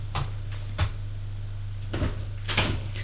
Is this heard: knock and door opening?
yes